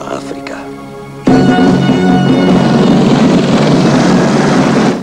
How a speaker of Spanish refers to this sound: helicóptero vuela hacia una ciudad amurallada construida en las faldas de una colina e integrada en el semidesértico paisaje gracias a los colores ocres y terrosos del adobe de sus edificios.